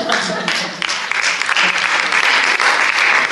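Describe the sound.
A burst of audience applause, steady and dense clapping filling the whole moment, fairly loud, with a faint murmur of voices underneath.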